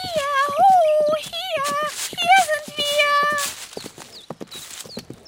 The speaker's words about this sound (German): Es dauerte auch nicht mehr lange. Da hörten die beiden, wie sich ein Pferd näherte und erblickten den schönen Prinzen.